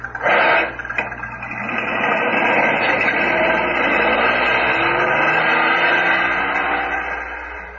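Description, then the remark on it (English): A car engine starts up and pulls away, its steady rumble rising in pitch as it accelerates, after a couple of sharp knocks at the start, then easing slightly toward the end. “Okay, Grandpa, you drive this one. I'll drive his.”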